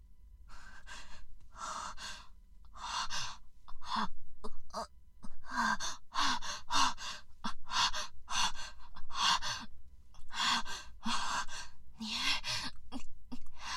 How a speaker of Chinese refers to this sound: 可此时的我已经无暇去顾及了，空旷的屋子里只剩下我粗重的呼吸声和轻轻的呻吟声。